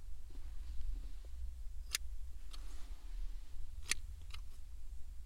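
scissors cutting

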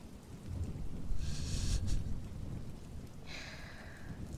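thunder rumbling with rain

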